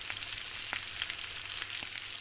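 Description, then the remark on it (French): Potatoes sizzle steadily in a frying pan, a dense, bright crackling hiss with occasional sharper pops rising out of it. No one speaks. “Côté cuisine, vous aurez peut-être reconnu le son d'une poêlée de pommes de terre qui mijote.”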